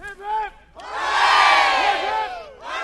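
Opponents of the Vermont Yankee nuclear power plant cheer and shout in celebration outside the State House after a Senate vote, many voices swelling into a loud, sustained roar of whoops and yells, with a few individual shouts standing out at the start and end.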